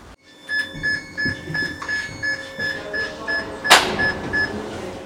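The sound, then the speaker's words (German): A funicular car of the Mühleckbähnli pulls away from its valley station, leaving the entrance hall empty. A steady series of electronic warning beeps repeats, broken by one sharp mechanical clunk, over a low rumbling hum in an echoing hall. No one speaks. “Und jetzt fährt es ab und wir sind in der Eingangshalle allein.”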